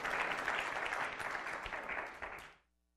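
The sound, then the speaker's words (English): An audience claps steadily for a few seconds for the speaker having lost 100 pounds, a dense patter of hands that stays level and then quickly dies away into near silence. “You can clap for that, please.”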